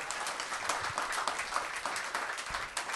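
A crowd breaks into steady applause, dense overlapping claps filling the space at a fairly loud level, sustained throughout with no voices standing out.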